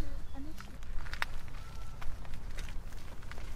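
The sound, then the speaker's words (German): Slow, irregular footsteps crunch softly over leaves and twigs as children sneak one at a time along a narrow forest path, trying to hear birds; a few separate steps with pauses between, with a faint bird call and low murmuring. “Jedes Kind geht Schritt für Schritt einen schmalen Pfad entlang.”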